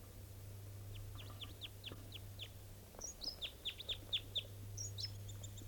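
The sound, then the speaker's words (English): A type 2 bird's song phrase given in flight on approach to the top of a Doug fir: a quick series of sharp, high, downslurred chirps in two bursts, the second louder and denser, over a steady low hum. No one speaks. “That sounds like there may be a type 2 bird around here.”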